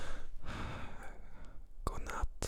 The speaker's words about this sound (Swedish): Om man lyssnar på det här innan man går och lägger sig, tänker jag. Så just det, då skulle man göra så man kan, det sista man hör när du flåsar in i micken. Jag kan avsluta lite så här.